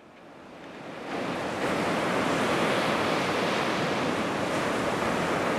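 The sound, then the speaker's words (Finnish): Heavy Black Sea surf roars continuously onto the shore on a windy day under dark clouds, swelling louder after the first second into a dense, crashing wash of breaking waves, with no voices. “Aallot tyrskyvät rantaan voimakkaina.”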